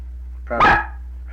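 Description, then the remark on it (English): A single loud dog bark, short and sharp, over a steady low background hum, with quiet before and after. “Now, you want to call your dog to you?”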